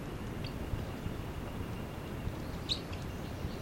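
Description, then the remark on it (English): A bird, number 306, gives two brief, high chittering calls, one early and a slightly stronger one near the end, set against a steady rumbling background noise. No one speaks. “The chitter by 306.”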